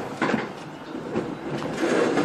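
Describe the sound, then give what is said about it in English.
A train rolls steadily along the rails on an hour-long ride to Box Hill, a continuous rumbling roar with faint rattles and a brief higher squeal near the end. “After the hour-long train ride, she finally got to the Box Hill Bunnings”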